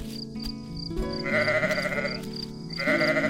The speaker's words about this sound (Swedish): Det är bara fåret som vill komma in, säger Bubblan. Fåret vill nog ha sällskap, det är inte så konstigt.